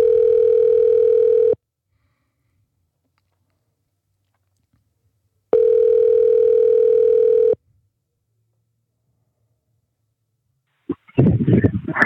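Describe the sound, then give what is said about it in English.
A telephone call rings out over the line as a show host calls someone to ask a question: two long, steady ringback tones separated by a few seconds of silence, followed by a brief rustling clatter as the call is answered. “Let's see if we can get Robbie Richardson on the phone.”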